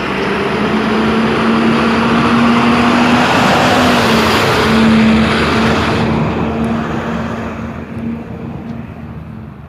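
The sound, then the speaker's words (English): A heavy truck engine rumbles steadily with a low droning hum and broad roaring noise, loud, then gradually fades and thins out over the last few seconds. No one speaks. “Let's get trucks in there.”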